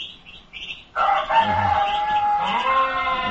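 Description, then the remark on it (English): A rooster crows loudly, one long strained cock-a-doodle-doo lasting a couple of seconds, preceded by a few softer chirpy clucks. “Find the donkey, find the rooster.”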